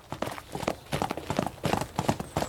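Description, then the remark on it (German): Two horses, Amadeus and Pascal, clip-clop in a brisk, steady rhythm as they are ridden toward Falkenstein, the sharp knocking hoofbeats overlapping slightly with no voices over them. “Oh, ist das super, wieder richtig zu reiten.”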